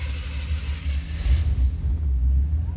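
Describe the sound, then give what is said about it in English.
The engine of a pink 1955 Cadillac rumbles steadily, a deep continuous growl with a hissy upper layer that fades partway through while the low throb carries on, as the car heads out cruising on a tour around Memphis, windows down, on a steamy August morning. “So I say, let's go get in the car and go cruise. Not just any 55 Cadillac. It's a pink Caddy.”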